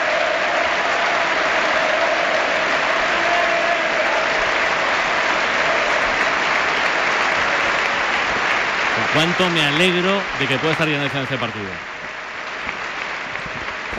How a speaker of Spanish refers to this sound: Pues mira, escuchemos en la ovación de todo el Estadio de la Cerámica a José Manuel Llaneza, que se acerca hoy todo el mundo en los banquillos mirando al palco y regalándole esta ovación a José Manuel Llaneza.